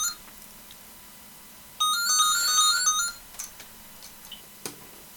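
A landline telephone, one of two handsets, set to ring as a wake-up alarm, rings once in a bright electronic trill lasting about a second, clear, followed by a few faint clicks and taps.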